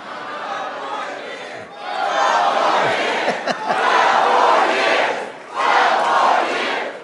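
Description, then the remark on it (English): A large crowd at a political rally in Hershey, Pennsylvania roars and chants "12 more years" in loud, sustained waves, rising in three swells with brief dips between them, a dense wall of many voices shouting together. “They start shouting now, 12 more years.”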